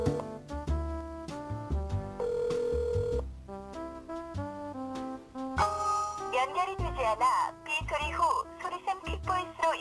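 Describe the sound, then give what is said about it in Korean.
A phone call to a friend rings out over the line as a continuous melodic ringback tune with layered instruments. It plays for about ten seconds, and what sounds like a singing voice joins in the second half. Nobody picks up. “뭐야 왜 전화를 안 받아? 바쁜가 지금?”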